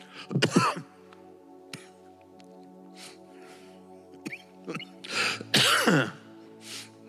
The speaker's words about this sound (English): I never once said excuse me when I cough because I would have been doing that all day. So thank you for bearing with me.